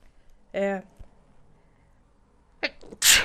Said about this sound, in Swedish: Där kom en nysning.